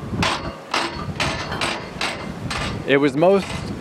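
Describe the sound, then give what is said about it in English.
A spinning turnstile clacks and ratchets in a steady series of about six mechanical clicks as someone goes through it to exit, followed by a brief vocal sound at the end. “Just going through the spinning turnstile now to exit.”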